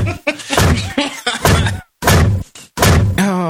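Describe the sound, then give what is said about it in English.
A voice loudly imitates an overhead bin door being slammed again and again on a foot hanging out, five or six hard, abrupt bangs in quick succession with short gaps between them, forceful. “He just keeps trying to close the door. Slam the overhead door because her foot's hanging out.”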